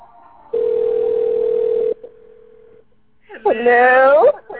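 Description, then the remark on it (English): A loud, steady telephone tone of an incoming call on Blog Talk Radio drones for over a second, then continues more faintly before cutting off, followed by a brief burst of a voice speaking. “Hold on, I'm getting a call.”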